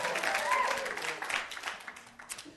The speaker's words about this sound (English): That was your cue to burst into spontaneous applause.